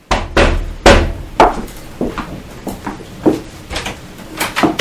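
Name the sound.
knock on a door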